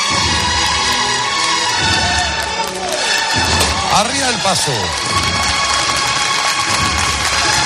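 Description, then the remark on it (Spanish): A marching procession band plays loudly and continuously, its brassy sustained tones blending with a dense crowd murmur, while a voice shouts briefly over the music. “Escuchen cómo suena esa banda, por favor.”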